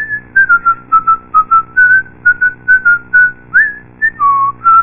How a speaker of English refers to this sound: Isn't that the tune to the Ritter Finance jingle you were whistling, honey?